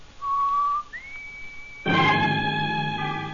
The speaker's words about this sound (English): Outside, at the front of the building, Dale whistles the warning signal to Roy and Jonah. As she does so, the front door is opening.